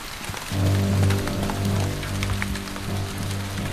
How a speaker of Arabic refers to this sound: لقد فاضت المياه. يا لها من أمطار غزيرة، إذا تكاد المدينة تغرق رحماك يا رب.